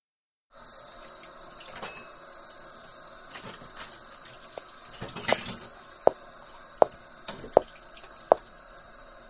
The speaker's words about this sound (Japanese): まだ食器洗いなんてことをしていたのですか